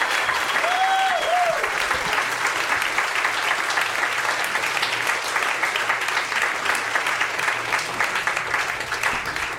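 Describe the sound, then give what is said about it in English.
Sustained applause from a sizable crowd as a musician, drummer for a band, comes on stage to play music; dense steady clapping at a loud, even level, with a brief whistle rising near the start. “So give him a round of applause, everybody.”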